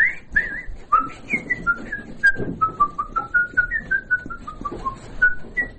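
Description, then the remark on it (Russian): A person whistles a melody alone, a string of clear, steady pure notes stepping up and down in pitch at a moderate tempo, fairly loud with faint background noise. “А так по улице хожу, так я все насвистываю, что-нибудь.”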